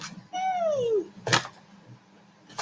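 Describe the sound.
A high-pitched voice imitates an elephant with one drawn-out trumpeting cry that slides downward in pitch, followed by a short, sharp noisy burst.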